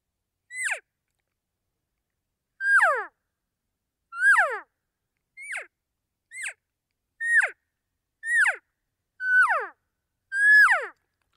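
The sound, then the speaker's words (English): A series of about nine imitated calf calls, each made as a two-part sound: short, high-pitched, nasal mews that slide sharply downward, spaced by brief pauses. The final call is slightly longer and louder, and there is no talking. “So I'll do a couple cow calls and then I'll do a calf call.”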